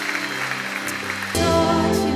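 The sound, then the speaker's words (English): An audience at a morning church service claps for the Lord, a steady broad wash of hands, with sustained keyboard chords ringing underneath. The music swells louder partway through while the clapping continues, and no one speaks. “Can we give the Lord a hand clap this morning for his goodness?”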